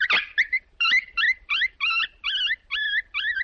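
dog whimpering

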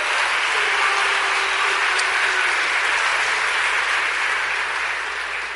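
audience applauding loudly

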